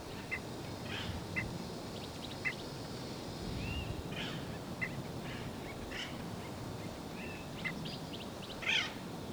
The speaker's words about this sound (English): Hairy woodpecker back there. Hairy woodpecker flying over. There it goes.